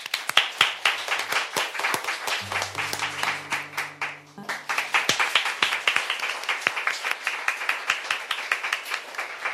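An audience at a public radio broadcast of a Saturday humanities concert claps steadily in a dense patter of sharp hand claps, calling a singer to a live performance, briefly joined by a low sustained tone in the middle before the clapping continues strongly.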